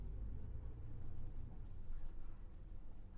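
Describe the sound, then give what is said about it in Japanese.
A steady, low engine rumble fills the inside of a moving bus, a constant deep drone with faint road noise and no voices, holding even for the whole stretch. “お姉さん、朝もこのバス乗ってるでしょ？”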